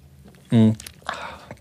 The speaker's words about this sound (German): Prost. Cheers. Trinke schnell einen Schluck.